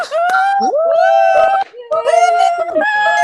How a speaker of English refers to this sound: A member put his phone up to the TV and the Zoom room erupted in applause.